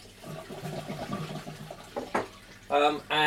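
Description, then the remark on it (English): A voice mumbles at first, then after a couple of short splashes, water runs loudly from a tap into a kettle in two bursts, with a hollow, rising filling tone, as someone fills it to make a cup of coffee. “I've got to get the water in the kettle.”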